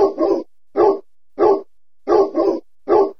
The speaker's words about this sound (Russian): Маркиз не успел ответить Зосе, потому что как раз в этот момент на огород с оглушительным лаем ворвался пират.